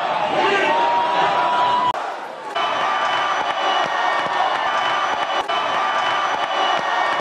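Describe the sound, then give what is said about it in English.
A large arena crowd at a boxing event roars and chants "we love Trump" or "we want Trump" loudly and continuously, a dense wall of voices, with a brief dip around two seconds before the noise surges back. “Pretty much the entire crowd is chanting either we love Trump or we want Trump.”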